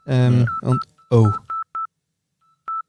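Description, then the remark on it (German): Short electronic phone dialing beeps from an incoming call, steady and mid-pitched, sound in a quick few at first, then one more after a pause. A voice-like tone is heard at the start. “Läutet jemand ein?”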